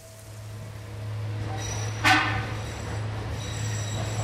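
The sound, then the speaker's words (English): A tram carrying workers rumbles steadily along its rails through a tunnel into Yucca Mountain, site of the U.S. Department of Energy's planned nuclear waste repository, with a deep, constant hum, broken around the middle by a brief metallic screech of wheels on rail, with no talking. “A journey into Yucca Mountain begins at the entrance to a tunnel where a tram waits to carry workers into the dark depths where the U.S.”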